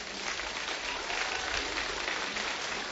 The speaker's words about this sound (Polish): Taka oto ósemka na scenie. Za chwileczkę do nas odezwą się muzycznie. Witamy serdecznie, wielkie brawa.